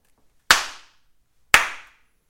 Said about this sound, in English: It was like a trickle of snaps like snowfall. Very soft. And three slaps. Yeah. Soft. I didn't want to be too aggressive with the snaps.